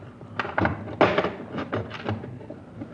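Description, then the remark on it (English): A series of sharp metallic clicks and clunks as the padlock on a truck's plain back door is unlocked, followed by a heavier thunk as the steel-lined door is pulled open. No one speaks. “Now, plain, ordinary door with the padlock. We unlock it.”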